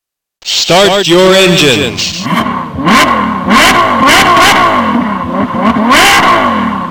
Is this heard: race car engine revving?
yes